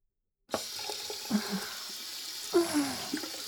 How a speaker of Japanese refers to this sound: それじゃあ、水で泡を流しちゃうね。